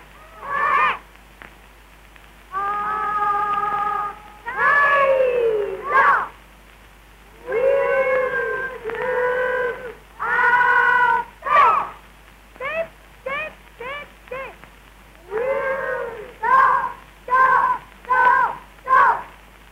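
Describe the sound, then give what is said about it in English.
A Cub Scout boy (a wolf cub) howls like a wolf, loud, in a long run of drawn-out wavering howls that break into shorter rising yips toward the end. “Boys, did you hear that howl? It was given by a wolf cub.”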